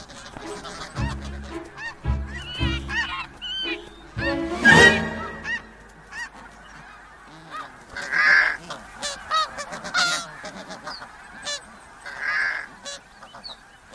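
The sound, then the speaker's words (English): A crowded chorus of geese honking at a busy, well-defended nesting colony during the nesting season, with loud calls overlapping a steady din of more birds, no voices. “There are more eggs here than she can possibly eat now. But the nesting season is short, so she stashes much of her plunder for later in the year when all the geese have gone.”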